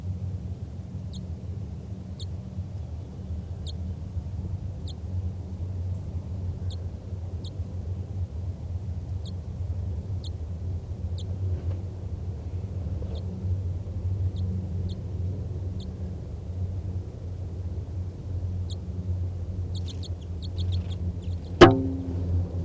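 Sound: wild bird chittering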